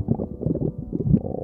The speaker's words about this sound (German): Wenn der Magen ganz laut knurrt, dann ist das wohl das deutlichste Signal für eins: Hunger.